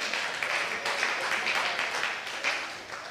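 An audience claps steadily for a few seconds after being asked to clap if they're doing well, following a worship team's performance. A dense, crackling patter of many hands at moderate loudness, with no voices over it.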